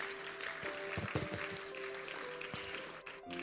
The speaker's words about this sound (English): Clap once again for Jesus.